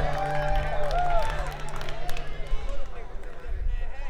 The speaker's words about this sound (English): Yeah, give it up for … who kicked us off with the … tribute. Come on, make some noise for ….